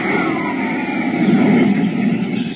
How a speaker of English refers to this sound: Look out. A Solar Guard jet. Hit the dirt.